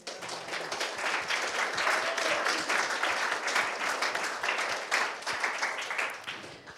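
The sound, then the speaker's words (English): An audience applauds everyone who facilitated the day's session, clapping steadily for about seven seconds, a dense, even patter of many hands at a fairly loud, sustained level before easing slightly at the end. “How about a round of applause for everyone who facilitated today?”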